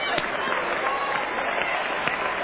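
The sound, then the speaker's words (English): An audience claps loudly and steadily, many hands overlapping into a dense, continuous patter of applause with a few sharper claps standing out. “You got to have a loud clap.”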